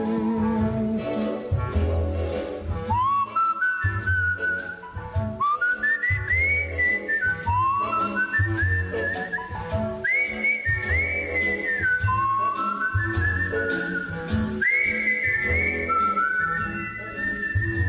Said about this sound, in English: Somebody else is doing the whistling there